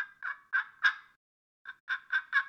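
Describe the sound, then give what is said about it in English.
A turkey call produces two runs of sharp, raspy yelps, four then four, spaced in a steady rhythm with a short pause between sets, loud with no talking. “And, of course, you can do the yelps.”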